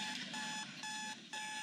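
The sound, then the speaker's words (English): An alarm clock rings in a fast, insistent pattern of bright, buzzing beeps, repeating in regular bursts about twice a second, loud with no voices. “Alarms are meant to be turned off.”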